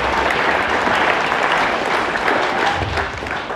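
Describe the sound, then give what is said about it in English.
An audience gives sustained applause for people sharing their cultural backgrounds, a dense, steady patter of many hands clapping at an even loudness for a few seconds, tapering slightly at the end. “Give everyone a round of applause for sharing their background.”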